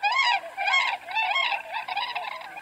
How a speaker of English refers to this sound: Few superlatives can sketch for the uninitiated the beauty of the drifting, seemingly translucent formations of white tundra swans that sweep over the Upper Mississippi River National Wildlife Refuge in November.